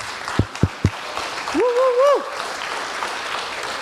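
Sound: loud audience applause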